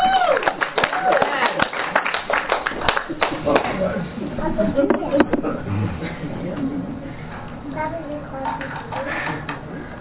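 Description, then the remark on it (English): An audience claps along to a song, a dense, rhythmic patter of many hands that is loudest early on, then thins out beneath singing and voices. “So if you're happy and you know it, clap your hands.”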